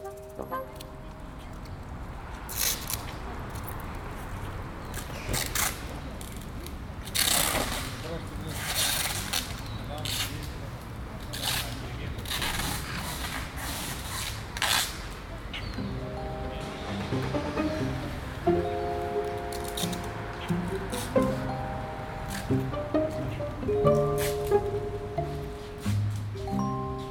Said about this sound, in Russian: И вот, например, звук годичной давности из прошлого лета. Это улица Дружбы в северной, скорее, части города, где расклейщики объявлений берут длинный скотч, разматывают его с таким характерным звуком и лепят объявление на подъезд.